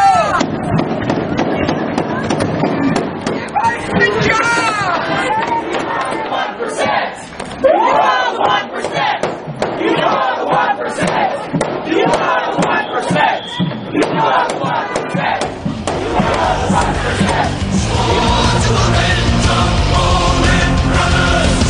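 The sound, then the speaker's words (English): A large crowd shouts and cheers loudly and continuously, a dense roar of many overlapping voices, punctuated by sharp pops and bangs amid the din. “Big crowd coming in behind.”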